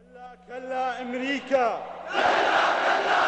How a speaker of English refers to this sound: At a recent sermon in the city of Kufa, radical Shiite leader Muqtada Sadr stirs up a crowd of thousands with his anti-American rhetoric. No to America, no to the occupation, he shouts.